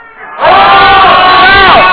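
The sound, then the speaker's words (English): A large audience bursts into a loud, sustained collective shout on cue, many voices roaring together after a brief quiet moment, holding steady at full volume. “Oh, shout! Let's go, shout! There you go.”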